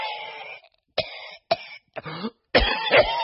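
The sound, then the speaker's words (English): A person coughs in a rough, phlegmy fit at a supermarket: several harsh bursts with short gaps, ending in a longer, louder hacking spell. No one speaks. “If you're like most people, you probably hold your breath, tighten your mask, and hope you don't catch whatever patient zero is spraying all over the fresh produce.”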